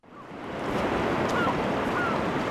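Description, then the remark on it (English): Steady roar of North Sea waves breaking and churning surf off a giant sandbar on the western coast of the Netherlands, where kite surfers ride; a broad continuous wash of noise that swells quickly and holds, with some wind rumble mixed in and no voices. “On the western coast of the Netherlands, kite surfers ride the waves off a giant sandbar that juts deep into the North Sea.”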